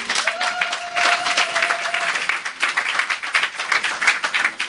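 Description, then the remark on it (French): An audience breaks into sustained applause acclaiming the Lord, many hands clapping in a dense, steady wash of sound, with a brief faint tone sounding through the first couple of seconds. “Est-ce qu'on peut acclamer le Seigneur?”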